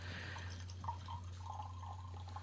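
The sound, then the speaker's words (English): Pu'er tea pours steadily into a cup, a soft continuous trickle with a few faint drips, over a low background hum and no talking. “So you're gonna pour us some now.”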